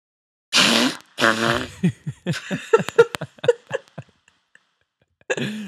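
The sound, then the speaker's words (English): A series of wet, sputtering fart-like noises made by pressing skin with an elbow, starting with two long broad blasts and breaking into a rapid run of short squelchy pops, fairly loud. “Here is my best fart sound using my elbow.”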